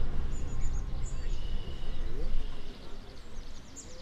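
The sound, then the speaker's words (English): Red-winged blackbird calls at a birding site in Northwest Ohio, where these blackbirds are abundant: several short, high chirps and trills, fairly faint, scattered over a steady low rumble of background noise. “And then the red-winged blackbirds. Those are in abundance here. They're really loud.”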